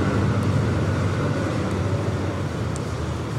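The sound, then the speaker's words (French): A steady, continuous rumble of engine and road noise from Taliban cars and motorbikes patrolling outside, heard from an inner courtyard, heavy in the low end and fairly loud, with no voices and no clear individual pass-bys. “Ce que tu entends là, cars and motorbikes, c'est le bruit sound, des voitures et des motos, des talibans qui patrouillent dehors.”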